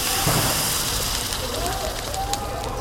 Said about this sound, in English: Help, my clothes are on fire. Throw yourself on the floor. Try to suffocate the flames.